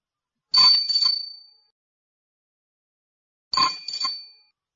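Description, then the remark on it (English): A bicycle bell rings twice, each time a quick bright double 'ring-ring' with a metallic shimmer that fades, separated by about three seconds of silence. No voices are heard. “No, it's a bike.”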